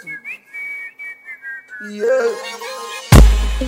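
A string of short, high whistled notes in a quick melodic pattern, then a musical backing swells in and a loud booming hit lands near the end.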